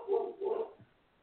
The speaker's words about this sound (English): Oh, somebody's not happy. I hear the dogs going off in the corner there.